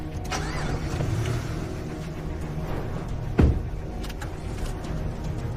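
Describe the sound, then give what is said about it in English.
A car engine rumbles steadily, with a sharp mechanical thump partway through as the car is started and quickly pulls out. No one speaks. “starts his car and quickly pulls out.”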